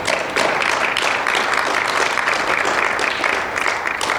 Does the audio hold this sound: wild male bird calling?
no